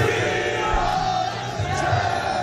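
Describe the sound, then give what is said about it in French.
A dense, roaring crowd of LOSC fans on the grand square of Lille, celebrating the club's league title right after the final whistle, cheers and shouts continuously, a loud wall of many voices with occasional louder whoops rising out of the din. “Dès le coup de sifflet final, 500 km plus au nord, sur la grande place de la capitale des Flandres.”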